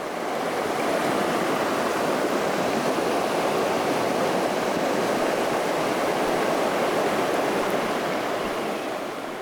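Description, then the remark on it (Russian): The Borovka, a forest river among pines, rushes steadily over rapids at the end of the day, a dense, even wash of churning water that stays loud for the whole stretch with no voices or breaks. “В конце дня, когда солнце позолотило верхушки сосен, так приятно было посидеть у воды, послушать, как шумит вроде бы спокойная лесная речка Боровка на перекатах.”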